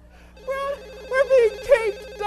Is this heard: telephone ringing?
yes